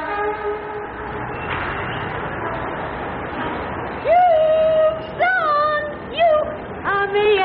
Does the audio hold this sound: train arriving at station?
yes